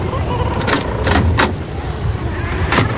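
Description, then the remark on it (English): A few solid knocks on a wooden cabin door, three in quick succession and then one more after a pause, over a steady low outdoor rumble. “Well, I suppose I should knock.”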